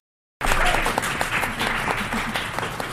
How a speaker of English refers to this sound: Fantastic. We've come to the end of this segment. Thank you all so much for participating in this. Can we give them a large round of applause, please?